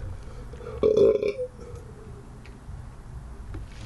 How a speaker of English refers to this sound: After burping Four Loko into a water cup.